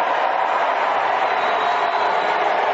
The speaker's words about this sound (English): And she gets booed.